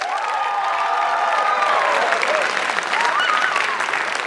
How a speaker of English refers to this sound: I thought you guys were smart, man. That was all UNC students applauding.